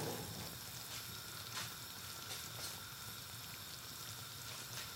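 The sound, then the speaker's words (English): A steady sizzle of a gratin just taken out of the oven, bubbling and crackling in its dish, with faint sharp pops scattered through a continuous hiss and no voices. “You can actually hear that sizzling.”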